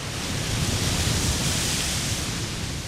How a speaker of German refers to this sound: Eine Monsterwelle. Meeresforscher bezeichnen sie auch als Freak Wave oder als Rogues.